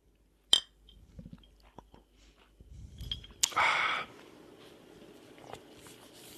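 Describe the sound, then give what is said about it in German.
A single bright clink of glasses rings out in a toast, followed by quiet handling sounds and a short, noisy slurp as someone sips a sparkling drink. No one speaks. “Ja, Prost. Prost.”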